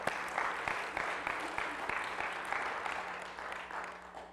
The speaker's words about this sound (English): Go ahead, give the Lord a hand clap.